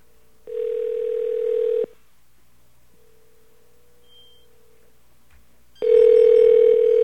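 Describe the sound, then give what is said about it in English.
A steady, buzzing telephone tone sounds in loud bursts, one early and one at the end, with a much fainter tone humming between them, as a number is called back after entering a secret code to test whether it forwards to a Sprint phone. Nobody speaks. “Which phone will ring, if any?”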